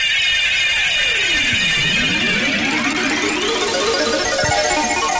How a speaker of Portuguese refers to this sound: Thiago Sadal aciona no microfone da Paiquê, o toque eletrônico mais conhecido do Rádio Esportivo do Paraná. Eu confirmo.